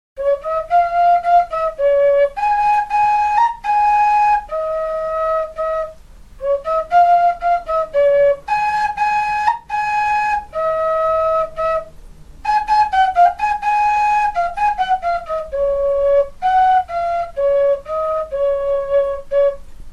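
A folk shepherd's pipe (píšťalka) plays a lively tune alone at a folk music show of soloists, singers and instrumentalists in Sľažany, bright breathy notes in short phrases with brief pauses, fairly loud for the whole stretch.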